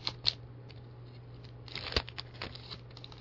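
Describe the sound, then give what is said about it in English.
Quiet scratching and small papery tearing as a fingernail picks at a paper sticker on the outside of packaging that does not come off, with a few sharp clicks and crinkles over a steady low hum. “Oh, it's just a little piece of paper. It doesn't... Or it's a sticker on the outside. It doesn't come off.”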